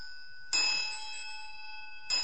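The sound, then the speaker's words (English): A ritual hand bell rings with a bright, sustained shimmering tone, struck or shaken twice about a second and a half apart, each time reviving the lingering metallic ring; no one speaks. “Pass them on so other people can try the bell in Georgia.”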